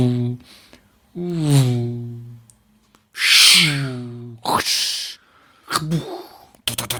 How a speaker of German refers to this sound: Jetzt bellt der Hund. Jetzt habe ich doofe Geräusche, weil jetzt bellt der Hund.